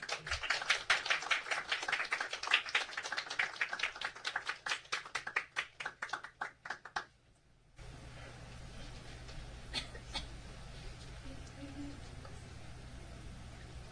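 A group of people applauds, a dense burst of hand clapping that builds and then thins out over several seconds before stopping, followed by a quieter stretch of room noise.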